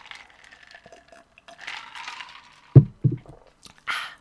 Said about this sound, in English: Actually, I'm going to have another sip of vodka just in case.